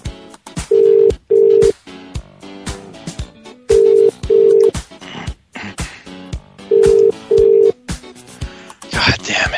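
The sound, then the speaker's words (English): A telephone rings out on the line: three double-burst ring tones, each pair a steady mid-pitched hum, repeating at even intervals over scattered clicks and background noise. “Pick up. Damn it.”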